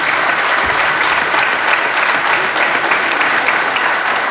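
A steady burst of audience applause, many hands clapping loudly and densely for several seconds with no voices standing out.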